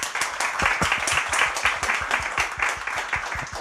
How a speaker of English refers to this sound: Can we have a round of applause for that?